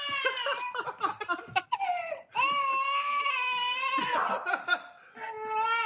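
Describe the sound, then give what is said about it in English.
A baby cries loudly in long, high-pitched wavering wails, broken by short choppy sobs and gasps between breaths, with no one talking over it. “I try to read tweets while my dog barks and my baby cries.”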